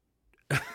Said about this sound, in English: Sorry. Let me see if this works. You didn't hear me cough, did you?